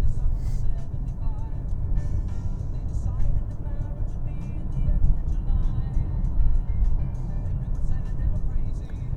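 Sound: car engine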